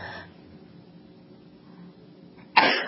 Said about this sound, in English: Apparently, hold on, I got to sneeze again.